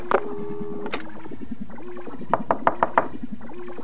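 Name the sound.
knocking on a door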